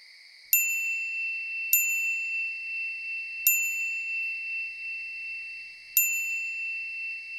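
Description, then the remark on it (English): Four bright, high-pitched phone notification dings for incoming messages, heard as a phone is powered on, arrive at uneven intervals, each ringing out and sustaining with a steady tonal hum until the next chime. Clear, no voices. “I'm getting a lot of messages.”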